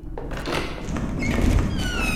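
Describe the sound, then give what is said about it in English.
A door being opened: a steady rumbling scrape with a rising, squeaky creak toward the end, lasting a couple of seconds with no voices. “I think the door can open now.”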